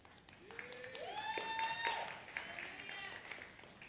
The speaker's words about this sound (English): Boy, you guys like to cheer.